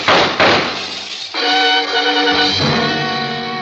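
Two sharp, loud gunshots in quick succession, bullets fired from outside, then a crash of window glass shattering that leaves a bright, sustained ringing tone fading slowly. No voices.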